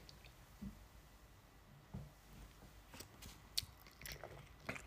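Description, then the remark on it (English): Someone quietly sips 147-proof light whiskey, aged 15 years, from a glass: a few soft wet sips and mouth smacks, a couple of dull low thumps early on, then small slurping clicks. No talking. “Let me give her a sip.”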